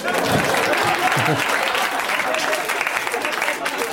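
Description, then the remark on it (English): A crowd applauds with dense, steady clapping that stays loud and even for about four seconds, a faint murmur of voices mixed into the noisy wash of hands. “Clap.”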